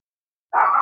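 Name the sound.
chihuahua barking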